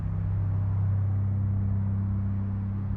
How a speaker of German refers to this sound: Dass das Stück jetzt keine Lärmdiskussion auslösen sollte, aber was es ganz sicher in Frage stellt, ist das, wie weit uns eigentlich dieser Klang Auto, Straße, Gürtelreifen eigentlich formatiert als Menschen.